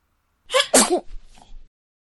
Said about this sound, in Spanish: De hecho, los perfumes me hacen estornudar.